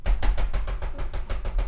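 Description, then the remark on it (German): A voice imitates the rapid, steady knocking of a foot nervously bouncing on a car's clutch pedal: about ten dull, clattering taps in quick even rhythm, moderately loud, with no talking. “Und dann hast du den Schleif, ich hörte so immer was klockern, so.”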